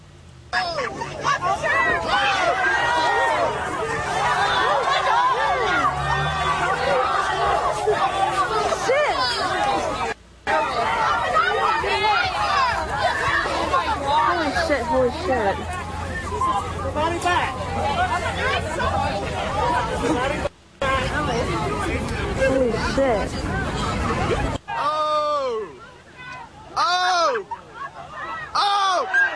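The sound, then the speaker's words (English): A large crowd yells a drawn-out "oh" again and again as a woman beats up a man holding a misogynistic sign, many voices overlapping into a loud, continuous roar, with a couple of brief breaks and more scattered shouts toward the end. “I know mostly it sounds like people yelling the word, oh, but in fact, it was a woman who saw his filthy-ass sign and proceeded to give him the beatdown for which he was apparently begging.”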